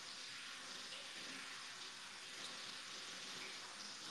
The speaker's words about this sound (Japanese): さりげなく風呂入ってるだけなんで。